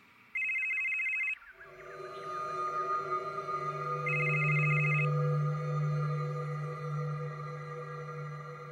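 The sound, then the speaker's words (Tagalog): A cellphone notification tone for an incoming message from a teammate sounds twice, a bright, high-pitched trilling beep lasting about a second each time, over a steady, droning tonal background with no talking. “Siya namang pagtunog ng cellphone notification ko.”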